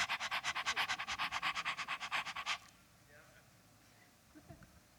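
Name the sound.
dog panting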